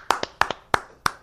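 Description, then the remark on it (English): A handful of sharp, crisp hand claps, about six, land in an uneven, loose rhythm with brief gaps between them. There is no talking. “I think we need a collective clapping of Tim Sullivan being able to unmute himself on the press conference on Monday.”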